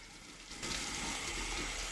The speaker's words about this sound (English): Carrie turns on the taps with her red hands.